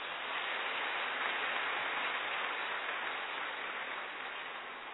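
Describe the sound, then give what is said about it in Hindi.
An audience claps steadily for the full five seconds, a dense, even wash of many hands with no individual claps standing out and no voices. “सभी ताली बजा सकते हैं, बैज लगा रहे हैं।”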